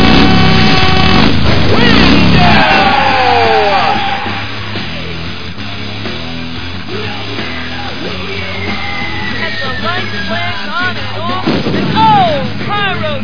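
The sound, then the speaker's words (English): A loud crowd of women screaming at a wrestling event as wrestler Magnum Randall walks out from the curtain toward the ring, shrill overlapping cries rising and falling in pitch over a dense roar, easing slightly midway before swelling again near the end. “And listen to the ladies scream.”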